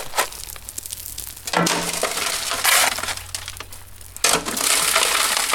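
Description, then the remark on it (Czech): Gravel being shovelled into the mouth of a stone crusher, a hands-on exhibit at an outdoor stonemasonry exhibition that visitors try themselves: gritty, grinding crunches with sharp scrapes and clinks of stone. Louder bursts come at uneven intervals over steady crushing noise, with no talking. “To znamená nasadit lopatou do tlamy, jak se říká štěrku.”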